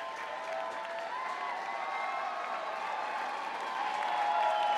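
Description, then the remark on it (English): A packed, sold-out concert crowd cheers and applauds in a steady, dense roar of clapping, with shrill whistles and shouts riding on top, swelling slightly louder toward the end. No one speaks. “And a sold-out crowd that won't let him go, for sure.”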